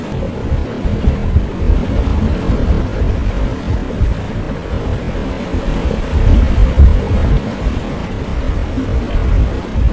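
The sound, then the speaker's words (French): A steady low engine rumble drones on throughout as a small boat motors toward the listener on the water, with some wind buffeting the microphone and no voices. “Alors que nous parlons, un petit bateau s'approche de nous”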